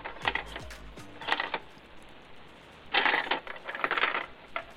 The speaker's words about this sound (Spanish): pero estamos hablando de una caja registradora en ese momento. Uh-huh. Antes de la lectura de barras, ¿no?